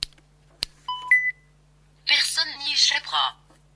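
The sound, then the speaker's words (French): A sharp click, then a quick series of short electronic beeps at different pitches from a device scanning the surface of a CD to find its label, followed by a voice speaking briefly. “Voilà, un autre bip m'a fait comprendre qu'il a trouvé l'étiquette et de suite, il m'a indiqué le titre de l'ouvrage.”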